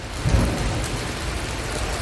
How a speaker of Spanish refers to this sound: Llueve en prácticamente toda la región. Hoy toca no separarse del paraguas porque tenemos alerta amarilla por lluvias en toda la región, donde está previsto que más caiga es en la zona de la sierra.